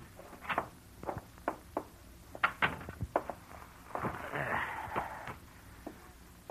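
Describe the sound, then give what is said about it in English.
Several sharp footsteps tap across a hard floor, followed by the rustling, clattering sound of a door being opened, with a few more steps trailing off afterward. “Get the door, will you?”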